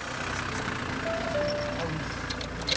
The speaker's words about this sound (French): La voiture des Lemoine arrive dans le village et se gare devant le restaurant.